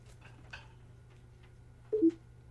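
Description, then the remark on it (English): A Bose SoundLink portable speaker gives a quick two-note beep when unplugged from its power source: two short, mid-pitched tones back to back, clear over a low steady hum, preceded by a few faint clicks. “And it beeps when you unplug it from the power source.”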